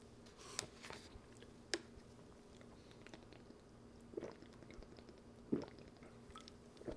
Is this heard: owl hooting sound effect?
no